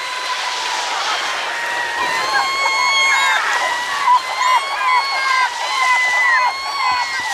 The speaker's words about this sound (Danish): Ja, men som for mig. Sølvmåger. Ja, det er sølvmåger. De har det meget godt. Ja, og det er sød musik for mig.